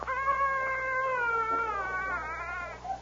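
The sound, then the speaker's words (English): A stray cat wrapped in a blanket bundle on a front porch gives one long, thin, plaintive cry lasting about three seconds, its pitch wavering slightly and sagging toward the end, heard alone with no talking. “He heard a tiny cry.”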